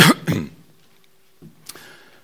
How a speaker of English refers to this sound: Sorry about this, I've got a bit of a cough.